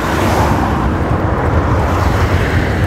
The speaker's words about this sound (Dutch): Een stukje langs de weg. Een klein stukje weg, dus dan heb je misschien wat langer last van auto's.